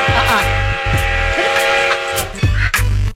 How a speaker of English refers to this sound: Choo-choo, here we go.